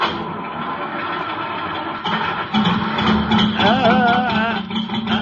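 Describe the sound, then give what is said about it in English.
A cold car engine, in icy weather, sputters to life, a low steady rumble that swells louder partway through, then revs unevenly with a wavering, whining pitch before settling. No one speaks. “Yeah, I hear a car motor.”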